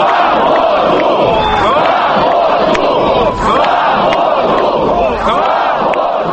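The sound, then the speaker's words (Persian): Nearly 2,000 protesters gathered in a square shout freedom slogans together, protesting the building of a highway through the Khimki forest northwest of Moscow. Many voices rise and fall in a steady, repeating rhythm, loud and unbroken for the whole stretch. “جمع آمدگان شعر آزادی می دادند.”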